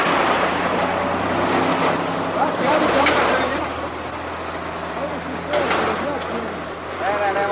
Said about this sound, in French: Un camion militaire passe sur la route sans s'arrêter.